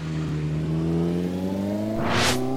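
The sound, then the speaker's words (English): A car engine revs steadily higher as the vehicle pulls forward, ending in a brief rushing whoosh as it drives into a school compound while the guard is distracted. No voices. “Mr. Dodd drives his car into the school compound while the guard is temporarily distracted”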